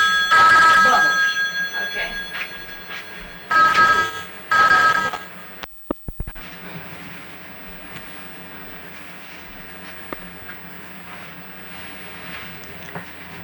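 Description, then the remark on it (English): A phone rings loudly in three bright, tonal bursts over about five seconds, then cuts off, leaving only faint background noise. “That's your phone.”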